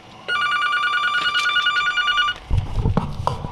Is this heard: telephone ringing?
yes